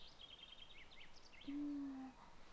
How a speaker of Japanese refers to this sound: あ、鳴き声も聞こえてきますね。どんな鳥さんでしょうか。